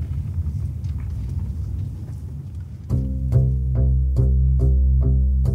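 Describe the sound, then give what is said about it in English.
A steady, low engine rumble from inside a moving car fills the first few seconds, then plucked musical chords begin playing over the continuing road hum. “We drive.”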